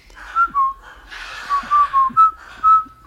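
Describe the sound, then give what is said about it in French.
Soldiers in a film whistle a march tune: a string of short, clear notes in a steady, jaunty rhythm, moderately loud, with soft breathy noise between phrases and no talking. “Les soldats sifflent le.”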